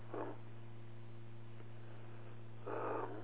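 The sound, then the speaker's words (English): Two rasping snores, one at the start and one near the end with a long pause between, over a steady low electrical hum. No one speaks. “What really snoring noises were, I think they're all in bed.”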